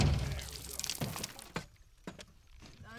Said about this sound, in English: One of the guys pulls out what's called a bang stick, essentially a gun that only fires when you push the barrel against the gator. He reaches out over the alligator and fires the bang stick into its skull.